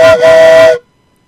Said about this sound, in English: I'm a train. I'm a choo choo. Woo hoo.